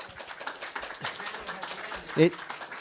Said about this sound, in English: Okay. Oh, yes. Big applause for the UFO panel. Right.